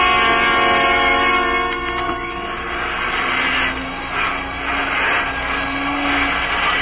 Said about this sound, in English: Turn that vacuum cleaner off for a minute, will you